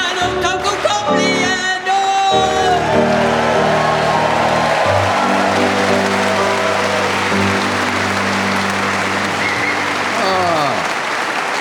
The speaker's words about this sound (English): Tony Hawks there, thank you very much, and all the audience here in Exeter clapping along, showing just how little entertainment there must be in this part of the world.